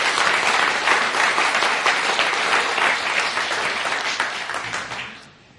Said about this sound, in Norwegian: Derfor ønsker vi, bare som et eksempel på godhet som gjøres i denne menigheten, og det er mange andre som kunne vært nevnt, så gir vi dem en applaus her nå, og gir en liten blomst til dem.